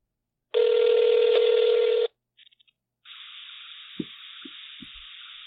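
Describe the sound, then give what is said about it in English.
A phone call placed on speakerphone: a loud steady tone for about a second and a half, a quick burst of dialing beeps, then an open hissing connection with a few soft low thumps, no voices. “You haven't called me? You know, call me.”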